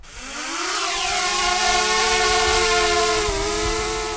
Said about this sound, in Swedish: Drönaren med videokamera lyfter mot Enkullens topp.